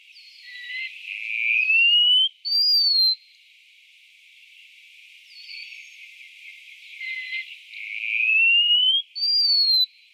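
Thin, high whistled notes rise slowly in pitch, each phrase ending in a short sharp upslurred note, repeated twice with a pause between; wallcreeper calls, clear and alone with no talking.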